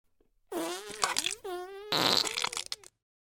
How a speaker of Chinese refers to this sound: 我现在翘起了高贵的翘臀，在地上拉一泡屎。